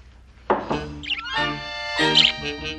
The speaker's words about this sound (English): No, quiet, till the bird settles down.